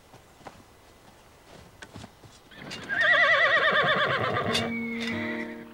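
A horse lets out a loud, wavering whinny, its harmonics rising and falling, after a few sharp hoof knocks and shuffling steps on hard ground, at a Union (Yankee) army camp where officers and men check their horses over before riding out.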